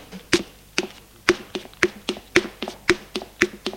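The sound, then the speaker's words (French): Two people leave a bedroom and go down a staircase, footsteps in a quick, steady rhythm, a dozen or more hard knocks with soft thuds between, no voices. “Et descendent.”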